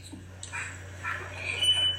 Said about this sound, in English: Somebody's smoke detector going off? That's that goofy-ass washing machine behind me.